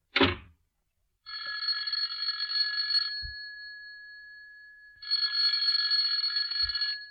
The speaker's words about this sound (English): Here, let me show you. You go outside and ring the bell again, and I'll show you where you're wrong.